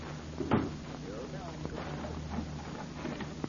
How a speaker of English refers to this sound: Lock the door.